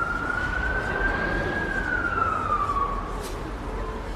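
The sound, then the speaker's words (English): Ambulance and police car sirens wail steadily in the streets of Akihabara after an attack, with at least 17 ambulances rushing to the scene. The pitch slowly rises and falls over a dense rumble of city traffic noise. Loud, with no voices. “As the day unfolded, the once vibrant streets of Akihabara were engulfed in a cacophony of wailing sirens from ambulances and police cars.”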